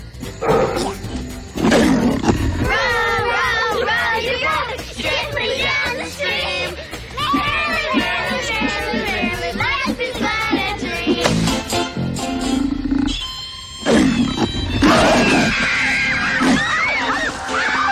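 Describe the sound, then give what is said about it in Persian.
A small bear roars loudly in repeated growling bursts at a picnic, mixed with frantic yelling and a busy, dense background that barely lets up over the whole stretch. “چی شده بچه ها؟ از این خرس کوچولو بی آزار ترسیدی؟”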